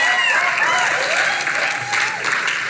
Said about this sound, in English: And that's a weak applause for my sister. Y'all better do better than that for my sister.